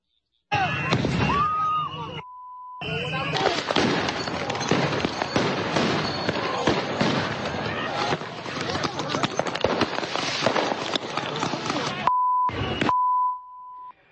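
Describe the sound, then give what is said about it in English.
In Minneapolis, people throw fireworks at federal agents; the fireworks crackle and bang in a dense, nonstop, loud barrage, with a crowd's voices mixed in and a couple of brief electronic beeps cutting through. “The video showing them throwing fireworks and other items at agents, breaking glass, beating cars, agitators vandalizing federal vehicles”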